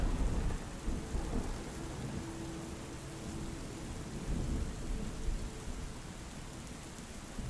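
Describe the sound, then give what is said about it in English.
Steady, heavy rain pours down on a dark summer night over a flowery meadow in a dense, continuous hiss, with a deep low rumble of distant thunder underneath. No one speaks. “The rain gets heavier, but you remain warm, as it is summer, and the air is very comfortable.”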